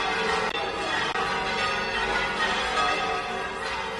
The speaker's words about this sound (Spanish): El sonido de las campanas de la catedral despidiendo a su patrón a estas horas, la Virgen de la Fuensanta, emprende ya regreso a su santuario de Algezares una vez pasadas las fiestas de primavera.